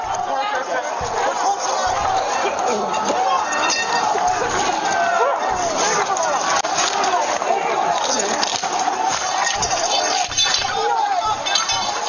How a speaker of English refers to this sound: This is like a moderate, angry crowd, right? Yeah. In a way, you could say, right?